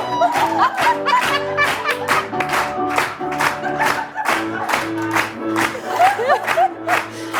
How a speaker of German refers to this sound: Habt ihr das am Anfang gehört? Ja, wir haben einen neuen Jingle. Ich liebe ihn. Gefällt er euch?